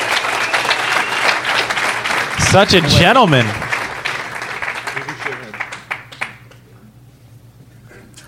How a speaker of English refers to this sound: How about we all clap for the Congrats, winner?